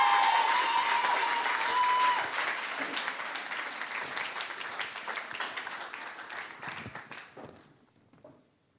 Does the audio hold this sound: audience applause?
yes